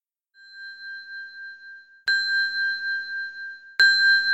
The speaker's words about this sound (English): My phone chimes.